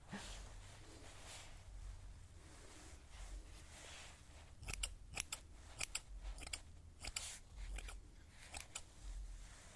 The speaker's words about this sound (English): So for that, we create the layers, and we also use a special set of scissors that helps remove some of the weight. Just the way it starts falling. Yeah, so now we use this kind of scissors here.